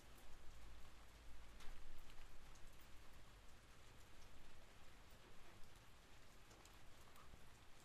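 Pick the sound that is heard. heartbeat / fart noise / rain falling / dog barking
rain falling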